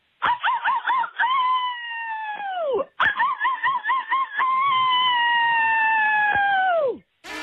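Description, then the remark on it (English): A person with cabin fever howls twice like a wolf at the moon, loud, each howl opening with a quick wavering warble before sliding into a sustained tone that falls away at the end. No talking. “I have cabin fever. It's making me howl at the moon.”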